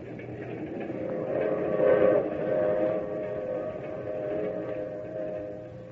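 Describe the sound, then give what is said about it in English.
A steady, rumbling train rolls along the tracks, its low mechanical roar continuous, with faint sustained tonal hums riding over the noise and swelling slightly midway. “Not till I'd gotten on the train with her and we were riding along did she tell me why.”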